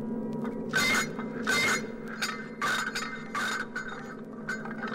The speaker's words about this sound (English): Would you look at it, Captain? Hundreds of poor turned-off robots just clinking and clanking against each other. You would think those miserable space pirates would at least secure them.